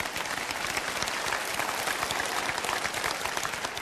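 An audience claps steadily, a dense wash of many hands beating together at an even, sustained loudness with no voices heard.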